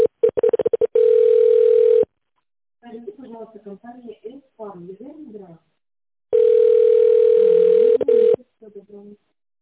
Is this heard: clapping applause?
no